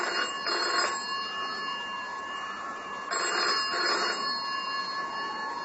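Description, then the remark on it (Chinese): A telephone rings during a typhoon, in two bursts of trilling double rings separated by a pause, fairly clear, with a faint steady hum underneath and no one speaking. “啊，大概是他打来了。”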